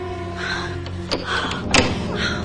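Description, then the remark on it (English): Three servants outside try a locked door with glass panes, its handle jolting and rattling twice against the frame, a sharp clack followed by a stronger one, over a steady low background hum. Nobody speaks. “Their faces are at the glass, peering in. They try the door.”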